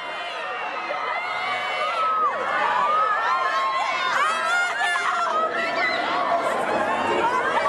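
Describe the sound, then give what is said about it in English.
A crowd of teenage girls screams and shrieks continuously, many high, wavering voices overlapping in a loud, excited clamor that never lets up. “you get a lot of screaming, crying, fainting teenage girls.”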